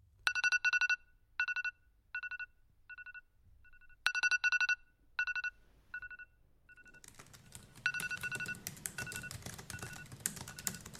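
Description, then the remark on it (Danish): An iPhone alarm ringtone plays a bright, chiming melody of quick repeated notes in a looping pattern. In the final seconds, a rough rustling noise rises beneath it. “Min iPhone ringer med den velkendte alarm.”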